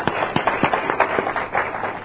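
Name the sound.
audience applause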